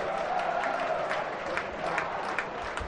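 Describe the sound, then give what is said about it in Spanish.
Steady applause from a crowd in recognition of Huesca coach Antonio Hidalgo, who applauds back, a dense wash of many hands clapping at a constant level for a few seconds, with faint murmuring voices mixed in. “Y responde Hidalgo a esos aplausos con más aplausos, ¿eh?”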